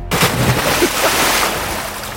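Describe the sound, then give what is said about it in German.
A cannonball jump hits the water with a sudden heavy splash, followed by a couple of seconds of churning, sloshing water that gradually settles. Loud, with no talking. “Wir starten mit unserem Geräuschespiel und hüpfen ins Wasser. Eine Popbombe.”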